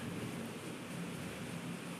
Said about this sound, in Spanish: Está lloviendo medio cabroncito, así que espero que no se escuche tan feo.